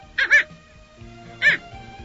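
A dog named Xiaoshuai barks at night, three short, high yips: a quick pair, a pause, then one more, with a faint low hum underneath.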